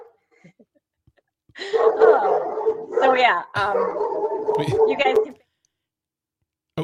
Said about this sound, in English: Sorry, my dog's barking. Your dog is very upset about this too. Yes, your dog is not happy.